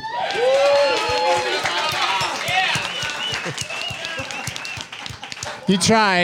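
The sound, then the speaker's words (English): A large audience at a comedy show at South by Southwest applauds loudly, dense steady clapping mixed with whoops, cheers and excited voices, sustained from start to finish. “You tried to do it, but all that clapping, all that thunderous applause drowned out the callback.”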